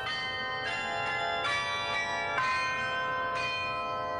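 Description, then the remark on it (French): Carillon bells at the top of the belfry of the chamber of commerce in Lille, 76 metres above the ground, ring out a slow, gentle lullaby melody, each struck note sustaining and overlapping the next, about five notes in all, steady and resonant with no voices present. “ce sera l'air du Carillon qui joue le petit quinquin, notre célèbre berceuse lilloise”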